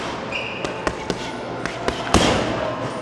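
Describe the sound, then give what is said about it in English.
A 12-year-old boxer circles a heavy bag throwing punch combinations at a rec center in Anchorage: sharp, thudding punches land in quick irregular bursts, about six distinct hits, with a louder impact near the end over a noisy gym background. “breaks off from the rest of the class with the more experienced boxers and starts throwing punch combinations as he circles a punching bag.”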